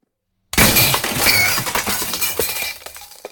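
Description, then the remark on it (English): A sudden loud crash of breaking glass after a brief silence as keys are dropped down a huge well with lots of glass at the bottom, followed by a jumble of bright tinkling and clattering shards that slowly thin out and fade. “Dropping your keys down a huge well with lots of glass at the bottom.”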